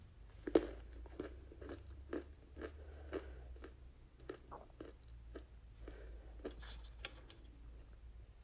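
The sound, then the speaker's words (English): Someone crunches and chews a Carolina Reaper hot pepper, with a steady run of crisp, sharp crunches at an uneven rhythm over a low background hum. No one speaks. “I'm just going to pop one in my mouth.”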